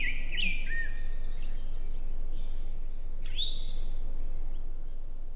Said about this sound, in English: If we pause for just a moment, we can actually hear the rose-breasted grosbeak quick. If you want to take a listen to it, here it is.